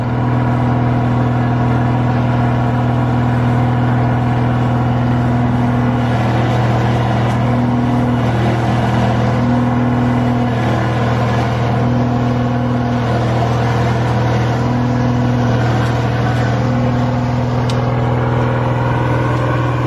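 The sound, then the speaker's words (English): A steady, droning engine of a water lily harvesting boat runs with a low mechanical hum, constant with a slight rhythmic pulsing in the mid tones, loud and continuous with no talking. “But of course they have limited mobility, so these mobile boats are really a lifesaver.”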